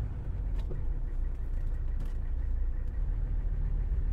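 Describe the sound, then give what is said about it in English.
Steady, heavy low rumble of road traffic while getting on to the Lincoln Tunnel extension, like riding inside a moving car, with a couple of brief hissing swells of passing vehicles and no voices. “And a little bit of traffic here as we try to get on to the Lincoln Tunnel extension.”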